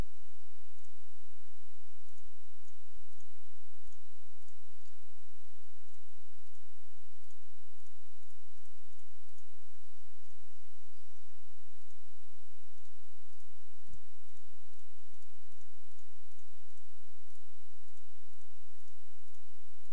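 A computer mouse clicks over and over at a steady, unhurried pace, each click small and crisp against a constant soft hiss, with no one speaking, as someone uses a paths tool to outline parts of a picture, tracing around a face.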